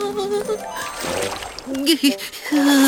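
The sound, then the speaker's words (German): Sea water sloshes and splashes briefly, a surge of wave noise rising in the middle, while a person speaks over it almost throughout. “Jetzt bewegten Wellen das Meer.”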